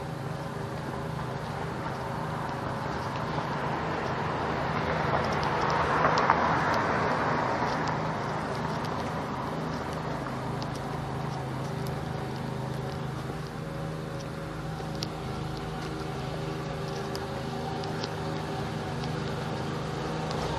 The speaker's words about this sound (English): Not the only one who has to do a lawn today, I guess. It's kind of early to be mowing lawns on Saturday morning, but I suppose. I usually try to wait till at least 9 o'clock on Saturday.